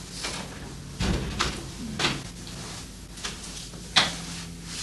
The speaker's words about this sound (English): You can close it. Close the door.